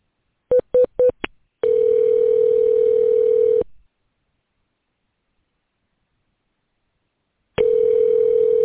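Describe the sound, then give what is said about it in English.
A few quick dialing beeps, then the steady hum of a phone line ringing on an outgoing call to a VA medical center's community nursing home program, unanswered: a two-second tone, a long silent pause, and the ring starting again. No voices. “And somebody should have answered the damn phone.”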